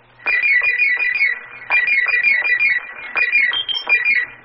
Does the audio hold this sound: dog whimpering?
no